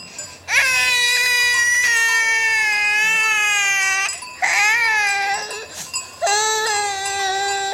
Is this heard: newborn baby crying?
yes